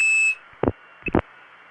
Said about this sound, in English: Well, the recording's gone. But as you can tell by this background noise, we are still, at least partly, connected to the long-distance network.